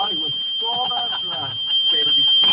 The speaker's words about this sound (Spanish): Me está sonando una alarma, no sé si sea alguna de ustedes allá. Oye. Pero sí enciende.